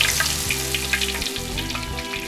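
Steady, crackling sizzle of food deep-frying in hot oil as a cook fries batch after batch, with scattered bright pops over a continuous low hum, fairly loud, no voices.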